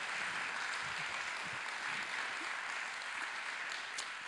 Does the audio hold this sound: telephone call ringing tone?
no